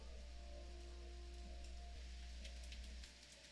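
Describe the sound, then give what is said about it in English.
A steady, hissing wash of sudden torrential rain outside in November with scattered patters of drops, heard faintly as if from indoors, over a constant low rumble that drops off near the end. No one speaks. “Like, all of a sudden the skies open up outside and it's torrential rain downpour going on right now.”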